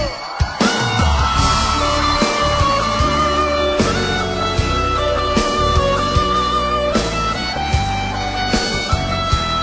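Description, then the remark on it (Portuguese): A large crowd yells and cheers loudly and continuously, voices whooping over steady live music, the din swelling in a few sharp bursts throughout. “Cadê o grito dos apaixonados aí?”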